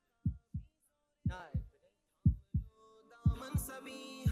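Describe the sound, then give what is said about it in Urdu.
Loud, deep heartbeat sound effect thumping in double beats, four lub-dub pairs about a second apart, with a tense musical drone swelling underneath toward the end, played for suspense in a tune-recognition quiz between teams from Multan and Faisalabad. “دل کی دھڑکن تیز ہے، 10 سیکنڈ میں فیصلہ ہو جائے گا، ملتان یا فیصلہ آباد۔”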